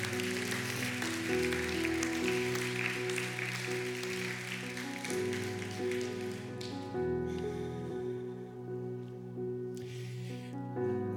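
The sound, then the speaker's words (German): A church audience applauds Jesus in a steady, dense patter over sustained keyboard chords; the clapping thins out partway through while the held music continues underneath. “Lass uns Jesus einen Applaus geben, seiner Treue und seiner Kraft.”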